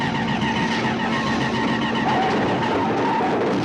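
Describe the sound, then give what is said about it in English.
A car skids out of control as its driver struggles with the wheel and it can barely stay in the lane. Its engine roars loudly beneath a continuous harsh rush of tire and road noise, sustained throughout with no voices. “Van Ponder struggles to control his car.”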